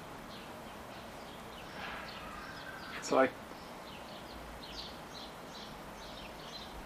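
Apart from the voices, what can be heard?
birds singing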